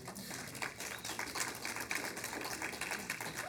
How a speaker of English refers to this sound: It's the first time anybody's ever clapped when I've taught. I love it.